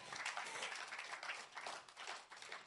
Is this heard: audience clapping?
yes